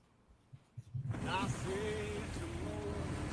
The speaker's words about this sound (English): But this is some footage of said skunk water, which Israel has used many times over the years against Palestinians.